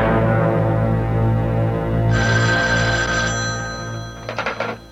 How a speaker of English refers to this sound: would you mind answering the phone?